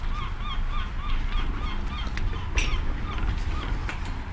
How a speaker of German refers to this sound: Ach, guck mal, jetzt hier noch so eine Möwe extra für uns.